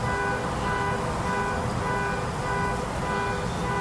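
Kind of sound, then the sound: vehicle, street traffic noise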